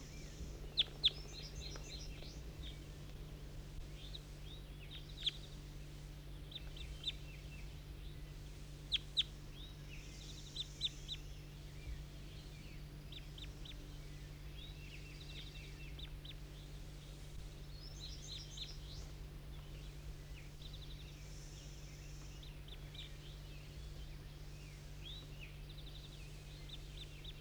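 A bird perched in a tree calls repeatedly in short, chattering bursts of high-pitched notes over a steady low background hum, with no one speaking.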